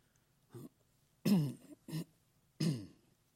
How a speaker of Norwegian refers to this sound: Beklager litt kremting, det er sånn ørlitt høstkremting.